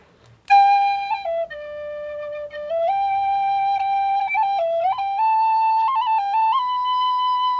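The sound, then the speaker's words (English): A tin whistle plays the Irish tune Eileen Aroon (Eileen My Love) alone, a slow, lilting melody with bright, breathy notes held long and stepping up and down in pitch with small ornamental flicks between them. “Just a little bit on the tin whistle, just playing.”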